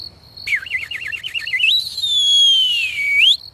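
A soft whistled signal, the well-known robbers' whistle given by three robbers up at a window: a quick warbling trill, then one long sustained note that rises, sags gently and sweeps back up at the end, heard alone without any talking.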